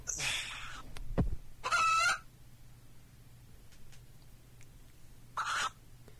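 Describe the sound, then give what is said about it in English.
Several short bursts of chicken clucking and squawking, separated by pauses, with a low steady hum in the background. The calls are moderately loud, with no talking. “Yeah, that sounds like chickens.”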